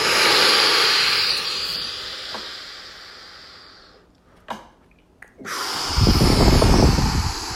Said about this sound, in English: But if you can do it, do it. Deep breath in.